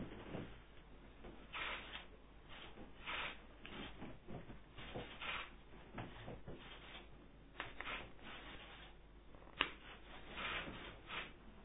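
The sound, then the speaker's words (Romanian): Paper rustling and crinkling in repeated bursts as a slip with a name written inside is folded and inserted into an urn, ending with a sharp click near the end, with no one talking. “Vom împături cu numele înăuntru acest nume și vom introduce în vină.”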